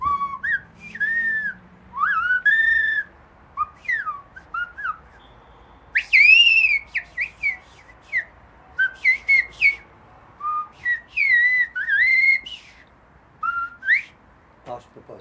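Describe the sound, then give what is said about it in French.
A person whistles a varied, bird-like melody imitating blackbird song, with bright warbling phrases and swooping notes in short bursts separated by brief pauses, clear with no talking. “Mais au mois de juin, le merle, je dors pas, je sors des fois la fenêtre à 4h du matin, il n'y a personne, il siffle, je siffle, il répond, comme ça, sans arrêt la nuit.”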